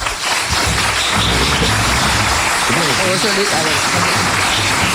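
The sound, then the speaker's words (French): At the close of a federal election debate between the main candidates in Bécancourt, held at the Centre des arts populaires, an audience applauds the candidates steadily for about five seconds, a loud, dense wash of clapping with a voice briefly audible over it midway through. “Et je vous invite à applaudir vos candidats.”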